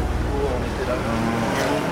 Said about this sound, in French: Mercredi, il est 8h du matin, le jour commence à se lever. La circulation a repris sur le boulevard Ney.